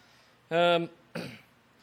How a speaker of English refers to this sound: And he explained to me that on another island a long ways from here, there's a volcano that's spewing stuff up in the air, and somehow or another, it's managed to make it to my lungs. So I apologize up front if I have to cough a few times.